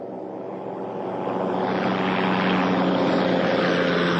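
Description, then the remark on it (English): A loud aircraft engine roar with a steady droning hum, swelling over the first second and then holding constant, with no one speaking. “Okay, and combustion and propulsion sound. They are loud.”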